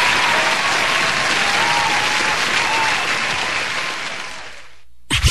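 A crowd applauds loudly and steadily, a dense wash of clapping that thins and fades over several seconds before cutting off into a brief silence.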